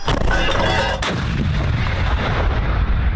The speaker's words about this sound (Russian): Ми стріляли на 1000 метрів. Це робиться для перевірки гармати. Тобто ми ці танки тільки отримали. Вони буквально 3-4 дні назад приїхали до нас. Самі ці, що стріляли. Вони просто перевіряється гармата і перевіряється кучність ураження цілі.